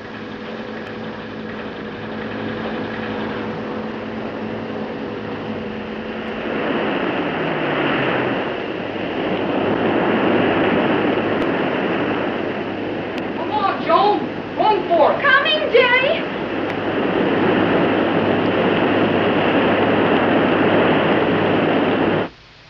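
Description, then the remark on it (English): A low mechanical hum gives way to a loud, steady roar of water rushing in and flooding a room after valves are opened, pouring on with a few brief warbling tones partway through before it cuts off abruptly. “Gee, that room's filling up with water awfully fast.”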